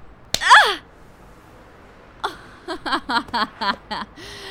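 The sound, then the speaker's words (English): A single light, sharp playful slap lands near the start, followed at once by a gasping vocal sound, then a run of short whimpering vocal bursts with no clear words. “Aw, what a cute little play slap.”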